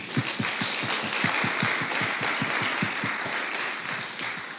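A crowd applauds steadily for several seconds, a dense wash of many hands clapping with a regular low thumping beat running through it. No one speaks.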